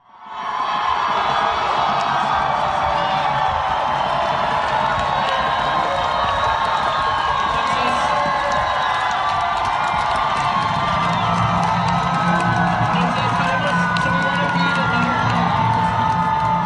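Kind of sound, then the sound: crowd, crowd cheering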